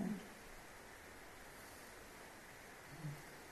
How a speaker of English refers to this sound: It's still rain.